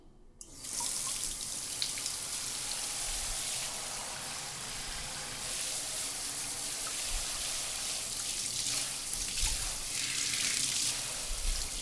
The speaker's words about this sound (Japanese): ちゃんと隅々までお姉ちゃんが綺麗にしてあげる。うん、おとなしくしてるんだぞ。シャワーかけちゃうね。